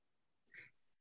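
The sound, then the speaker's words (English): A single short sneeze bursts out sharply against a quiet background, with no one talking around it. “Well, bless you.”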